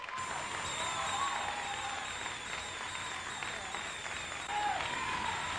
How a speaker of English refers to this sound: A lot of explosions, haven't hit anything yet. There you go. Another fighter coming up.